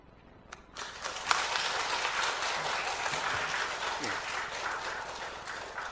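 A gathered audience breaks into steady applause after a brief quiet moment, welcoming a guest speaker to the podium, many hands clapping densely and evenly for several seconds without any voices on top.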